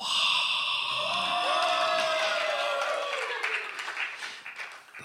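A crowd at the NSN Conference Regional Showcases, a storytelling event, cheers and applauds loudly, with whoops and shouts rising over steady clapping that tapers off slightly toward the end.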